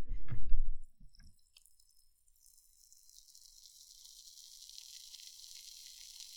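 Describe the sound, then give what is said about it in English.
A thump and rustle of handling, then a steady, soft, high-pitched crackling hiss of beer fizzing after a mixture is poured into it, continuing without a break. No one speaks. “Let me close the door so you can hear it fizzing.”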